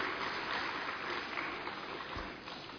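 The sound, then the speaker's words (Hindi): An audience applauds for the guests at an event at Gyan Sarovar, Mount Abu, India: steady, dense overlapping clapping forming a continuous hiss-like roar for a few seconds, fairly even in loudness and tapering slightly at the end, with no voices. “प्रकृति ने बारिश के द्वारा आप सभी का स्वागत किया है, तो इसके लिए अपने लिए सभी करतल ध्वनि करें।”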